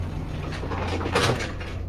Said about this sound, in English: In Caxton House, the door of an empty lift slides shut.